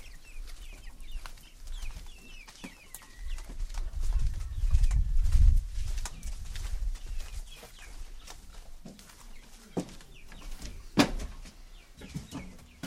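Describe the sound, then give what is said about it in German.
Pigeons coo softly inside a pigeon loft after 11 pigeons have returned, amid rustling, wing shuffles and scattered clicks, with a low thumping burst of movement midway and faint chirps above. “Hier ist keine, also sind 11 Tauben zurückgekehrt.”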